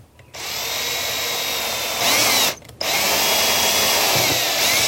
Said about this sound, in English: Okay, so I'm gonna stick this thing in a vise and drill down into the plastic thing that's holding it. And then put a screw into that hole and pull it out by the screw.